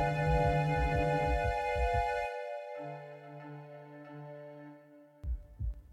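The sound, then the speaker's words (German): A run of low, muffled heartbeat thumps, a person's heartbeat calming down, gives way to a steady droning hum, then a few heavy beats return at the end. No one speaks. “Mein Herzschlag beruhigte sich.”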